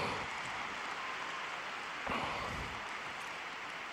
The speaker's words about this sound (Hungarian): Ezzel a tapssal köszönjük meg a 6. páteremben jelenlevő zarándokok Ferenc pápának a mai szavait, mai katekézisét,